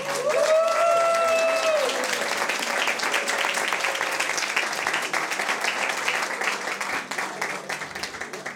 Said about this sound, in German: Begrüße ihn mit mir mit einem herzlichen Applaus.